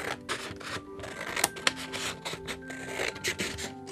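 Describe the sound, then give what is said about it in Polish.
Steady scraping and rasping of scissors cutting through a sheet of white paper, with a couple of sharper snips standing out; no one speaks. “Dobrze, zaznaczę sobie nożyczkami, gdzie zacząć.”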